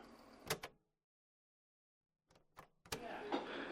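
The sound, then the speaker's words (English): Outdoor vehicle ambience at a rest stop during a bus comfort break, with a steady car engine rumble, broken by a few sharp door-like thumps and clunks, a short silent gap, then a louder run of engine and background noise. “I'm at a rest stop. The buses, they're giving us a comfort break”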